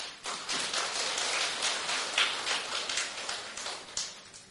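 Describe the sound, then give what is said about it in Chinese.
A steady burst of applause from many hands at a church service, thanking those who gave testimonies, a dense crackle of claps running evenly for several seconds with no voices. “我们再次热烈鼓掌，谢谢今天所有的见证人美好的见证。”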